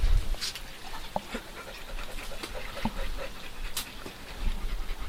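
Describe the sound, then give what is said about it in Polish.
A dog lying with its tongue out, apparently under a table, pants steadily, quick rhythmic breaths with soft huffs and a few faint whimpery squeaks, over a low background rumble. “A sapie jak stara rozduchota na piernicę.”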